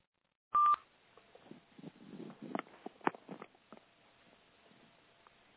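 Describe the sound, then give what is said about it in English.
A single short, loud electronic beep of someone joining a conference call, followed by faint rustling and scattered clicks on a muffled phone line, with no talking. “Heard another beep. Who joined us?”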